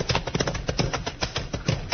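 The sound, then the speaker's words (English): Horse hooves clip-clopping in a quick, steady rhythm, several horses galloping as their riders flee, with a muffled, old-recording quality and no voices. “Fork those horses.”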